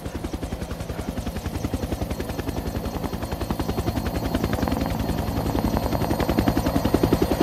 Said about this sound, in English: He opens his eyes as the helicopters land nearby, kicking up dust.